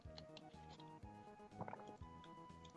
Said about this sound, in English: Is that you drinking? I was just having some water. I feel like the microphone is like inside your throat.